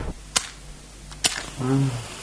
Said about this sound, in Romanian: Și în întuneric pe scara asta, aprinde măcar un chibrit să vedem ce scrie pe ușa asta aici.